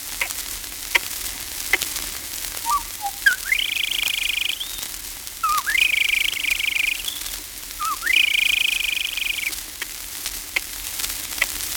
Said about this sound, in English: The joy of the marsh is the ocallee call of the red-winged blackbird. Notice the cluck.